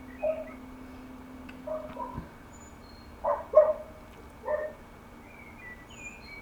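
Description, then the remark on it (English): A dog barks a handful of times, short muffled yelps spaced irregularly over a quiet, steady background hum, with no one talking. “It sounds like someone else has an idea for you in the background. Well, I got, my plate one, I got a dog at it.”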